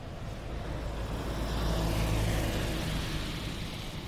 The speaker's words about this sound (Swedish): Nu går vi förbi bröderna Ahlgrens marmor. Det är den bilen som lät där nu.